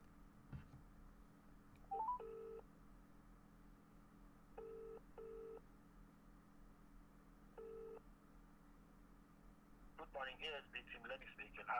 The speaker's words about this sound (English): I'm going to attempt to ring him again.